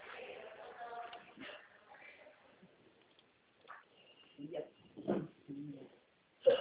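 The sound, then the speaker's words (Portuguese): Several short, abrupt hiccups pop out over a muffled phone line, the last one loud and sharp, after a stretch of faint, murmured background talk. “soluço.”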